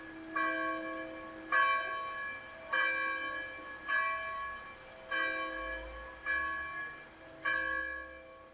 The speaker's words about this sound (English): We've been listening to the Volunteer Bell Ringers of Caslow. Two churches have been ringing their bells at 7 p.m. every evening to honor the frontline workers and to remind the community that they're not alone.